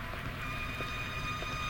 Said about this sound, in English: As Hollister strides up to his house, the car drives away.